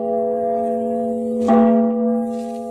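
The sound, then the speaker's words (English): A large bell rings with a deep, sustained hum, then is struck again midway, its loud clang blooming and ringing on. No voices are heard. “And the voice of a great bell proclaiming liberty.”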